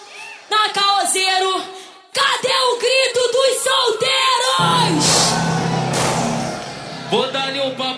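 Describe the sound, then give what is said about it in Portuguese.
Loud voices yell and whoop in bursts, then a dense crowd roar swells with a steady low rumble underneath before the shouting picks up again. “Agora eu só quero escutar o gritinho das”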